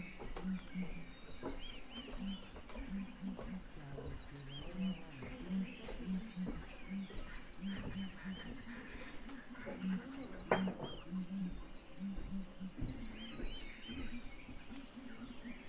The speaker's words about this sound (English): walking on the ground with these big red faces, and they make this booming sound